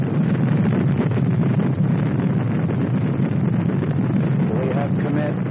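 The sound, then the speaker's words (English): A deep, continuous roar of rocket engines at liftoff during a 1968 launch, loud and steady throughout with a rumbling low end and broad hiss, and a faint voice briefly audible underneath near the end. “So the engines are on.”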